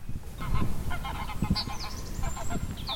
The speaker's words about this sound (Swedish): Det är tre gäss som jagar varann här.